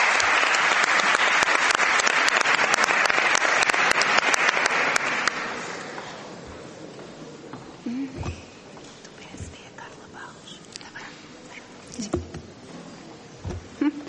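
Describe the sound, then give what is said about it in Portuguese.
An audience bursts into loud, dense applause for about five seconds for a group of parliament deputies from the PSD, PS, Bloco de Esquerda, CDS-PP, PCP and PEV, then it quickly dies away to a few scattered claps and faint murmur. “Para estes senhores deputados, peço o vosso aplauso.”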